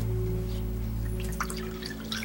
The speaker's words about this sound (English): A scotch is poured for a heavy, elderly man.